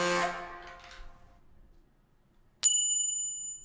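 A bicycle bell rings twice: a first ring that fades out over about a second, a pause of near silence, then a sharper, brighter ring that sustains to the end.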